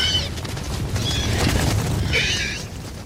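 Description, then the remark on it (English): Three shrill, chirping creature calls in quick bursts, high-pitched and slightly warbling like sped-up animal cries, over a low rumbling background that runs throughout. The calls recreate the movie gallimimus call from the sound of a horse in heat, chopped up, pitched up and panned left and right. “Now, that doesn't quite sound like a gallimimus yet, but if we chop it up, then bring up the pitch, then pan these sounds to the left and right, we can get pretty close to what we hear in the movie.”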